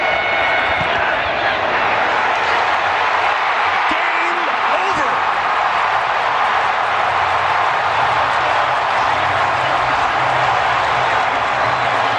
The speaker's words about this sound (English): Now, it might have been 50%, 60% Vikings fans, but the way that crowd sounded, you could never tell, at least on the radio, courtesy of CBS.